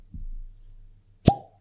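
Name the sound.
cork pulled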